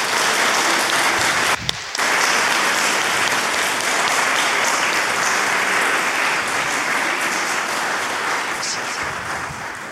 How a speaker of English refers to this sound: So, we'll do it. Round of applause, here we go.